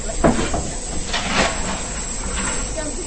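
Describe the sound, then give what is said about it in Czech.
A steam locomotive of a train departing for Mšeno hisses steadily at a station platform, with a louder burst of escaping steam midway, over a constant rumbling background. “odkud ten den vyjížděl parní vlak do Mšena. Zrovna vyjížděl na nástupiště, když jsem se blížil k nádraží.”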